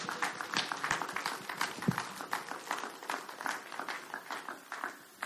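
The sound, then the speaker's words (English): A crowd applauds steadily for a man about to deliver a message, many hands clapping in a dense, continuous patter that holds for several seconds at a moderate level, with no one speaking over it. “Let's give Lloyd a big round of applause.”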